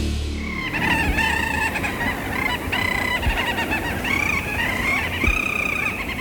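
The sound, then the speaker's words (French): A dense chorus of honking geese, recorded by Yann Tiersen in Svalbard in May 2025 during a sailing tour. Many overlapping nasal calls in a steady, continuous clamor with no talking. “Les oiseaux que vous entendez, ce sont des oiseaux que vous avez enregistrés, Yann Tiersen, au Svalbard, en mai 2025, donc juste avant l'été.”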